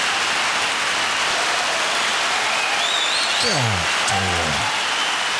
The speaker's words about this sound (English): Oh, the applause still going. They just still clapping.